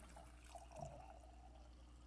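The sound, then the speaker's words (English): Oil pours steadily into a jar, a soft continuous glugging trickle with a slight rising tone as it fills, quiet, with no voices. “Now the widow began to pour the oil into the jars.”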